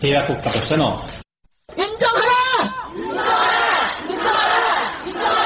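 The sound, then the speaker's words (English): A large protest crowd in Seoul, protesting over former wartime sex slaves, chants and shouts in unison, loud, with a brief silent gap early on before the massed voices resume, rising and falling in rhythmic waves. “At a recent protest in Seoul, a chair was left empty for one of the former sex slaves who had just died.”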